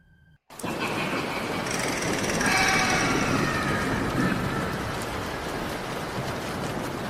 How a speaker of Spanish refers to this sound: Era una noche de tormenta intensa, una de esas donde los relámpagos iluminan el cielo cada pocos segundos y los truenos hacen temblar el suelo.